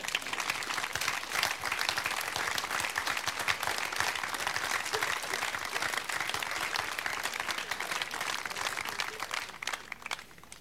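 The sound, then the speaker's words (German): A church audience applauds steadily for about ten seconds to welcome an arriving preacher, a dense, even wash of many hands clapping at a constant loud level, with no voices rising above it. “Herzlich willkommen, vielleicht können wir mit einem starken Applaus ihn schon herbeirufen.”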